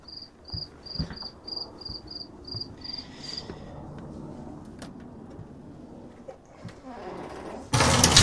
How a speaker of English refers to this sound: Sorry about that. Fucking cricket was pissing me off.